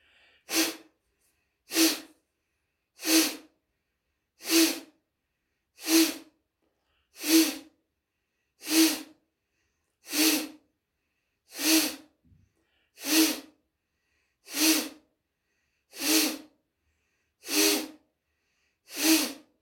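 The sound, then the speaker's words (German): Rapid, forceful nasal exhalations of Kapalabhati yoga breathing repeat in a steady rhythm, about fourteen sharp bursts of breath at roughly 1.4-second intervals, loud with silence between each. “Bauch lässt los, Kapalabhati beginnt.”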